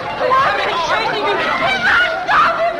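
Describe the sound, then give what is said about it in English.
A steady wash of overlapping voices from a crowd in a crowded bar, many people talking at once in a dense murmur, with a few brighter voices and a hint of laughter rising above the babble. “Struggling fiercely, she breaks free of his grasp and runs into a crowded bar.”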